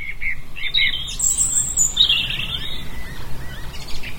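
Birdsong outdoors in gardens and fields in Northumberland: several high, bright chirps and trills overlapping from more than one bird, over a steady low rumble of background noise, with no one talking.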